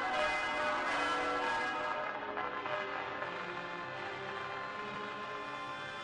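bells ringing

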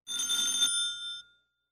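telephone bell ringing

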